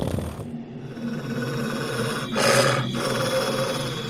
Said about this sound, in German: Aber ihr hört auch ein leises Knurren.